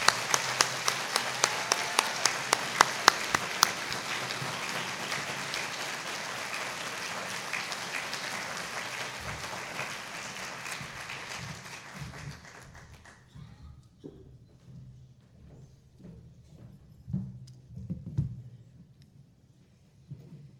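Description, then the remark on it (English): A crowd applauds the college faculty with dense, steady clapping for about thirteen seconds, a few sharp claps standing out at the start, then it fades to scattered soft taps and low murmurs. “Let's applaud them and the faculty as a whole.”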